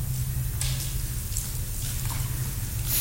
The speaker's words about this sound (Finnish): Mä käytän semmoisia lääkkeitä, että mun suu kuivaa vähän väliä, että mun pitää, anteeksi, vaan näyttää hölmöltä, että vähän väliä hörppii vettä.